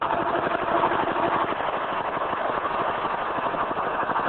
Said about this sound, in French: Ce bruit n'est rien d'autre que le glouton. C'est un équipement impressionnant qui avale toute la saleté, principalement des sachets qui traînent dans les rues, et cela grâce à un aspirateur qu'il possède.